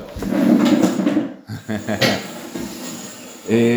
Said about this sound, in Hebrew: בוא, נביא לו כיסא. הנה, יש פה, יש פה. יש פה, יש פה. הנה.